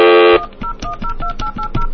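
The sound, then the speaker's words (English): After the flash button is pressed on a telephone, a brief buzzy tone cuts off, then touch-tone dialing follows: about seven short, evenly spaced beeps in quick succession, clear, with no voices. “Flash. Dial slowly.”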